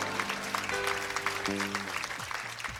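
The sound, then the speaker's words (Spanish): An audience claps steadily to welcome guests, a dense crackling wash of many hands, with sustained low tones and sliding musical notes playing underneath throughout. “Les damos la bienvenida con un fuerte aplauso.”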